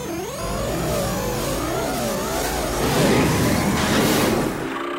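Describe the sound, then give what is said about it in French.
Futuristic flying cars whir and whoosh past in a busy city of tall buildings, their warbling engine tones rising and falling over a steady hum, with a louder pass swelling near the end. “Les immeubles sont hauts, il y a des voitures volantes.”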